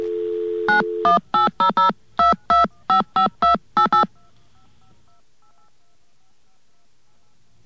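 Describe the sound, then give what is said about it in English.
A brief steady dial tone gives way to a quick run of eleven clear touch-tone beeps dialing an AT&T 1-800 number, evenly paced and fairly loud, then a quiet faint line hum with no talking. “Okay, let's give that a try. Let's get our dial tone.”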